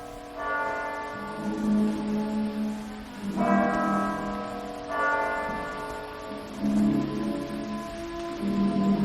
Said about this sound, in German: Das 1 Uhr Läuten der Kirchturmuhr hört er schon nicht mehr.